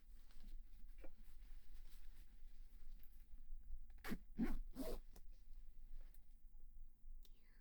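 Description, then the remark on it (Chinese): A clothing zipper is pulled all the way up toward the neck in a few quick, rasping strokes, bunched together midway through an otherwise quiet stretch with faint rustling. “不要把拉链拉到底，像你这样抱着脖子啊，很容易犯困的。”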